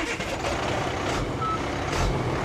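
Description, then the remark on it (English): A truck with a water-filled tank, used by Canadian officials to carry captured alewives upriver on the St. Croix River to spawning grounds, idles and rumbles steadily, its low engine noise filling the scene while a faint reversing beep sounds briefly through the din. “The fish are moved by net to a water-filled tank on this truck.”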